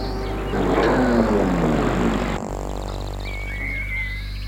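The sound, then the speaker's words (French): A car engine rumbles as it slows with a falling pitch and stops in front of a terrace, then cuts off abruptly, leaving a low steady hum and a faint bird-like chirp afterward. “La voiture va s'arrêter devant la terrasse.”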